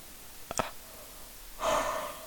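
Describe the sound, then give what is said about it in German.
A couple of soft mouth clicks, then a single drawn-out, breathy yawn with a faint voiced groan, trailing off at the end. No one speaks. “Absolute Vermeidungsstrategie, dieses Gähnen.”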